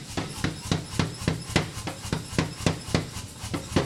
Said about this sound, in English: And, Kramer reaches his pole into a 2400-degree oven, and he pulls out an incandescent lump of raw steel, and he starts working it with a hydraulic hammer.